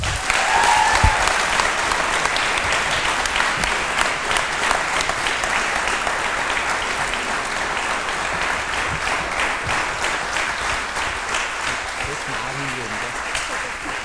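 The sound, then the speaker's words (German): Loud, sustained applause from a large audience at Black FM for a U20 national team player and World Championship starter. A dense wash of clapping holds steady for the whole stretch, with only a slight fade toward the end. “Sie ist zum ersten Mal bei Black FM zu Gast und damit sie sich gleich ein bisschen wohler fühlt, bitten wir jetzt ganz besonders um einen großen Applaus für die U20-Nationalteamspielerin und WM-Starterin”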